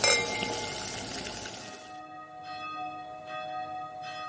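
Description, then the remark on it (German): Church bells ring out with a bright clang at the start, then their tones hang and fade in a long, shimmering resonance with faint repeated strikes. No one speaks. “Ihr hört die Glocken, Leute.”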